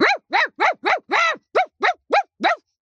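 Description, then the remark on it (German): A human voice imitates an aggressive dog, letting out nine loud, rough barks in a quick, steady rhythm, with no other talking. “Ich zum Beispiel kann sehr gut bellen. Ich gebe mal kurze Kostprobe.”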